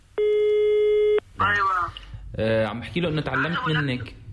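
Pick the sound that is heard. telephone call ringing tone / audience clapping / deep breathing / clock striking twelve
telephone call ringing tone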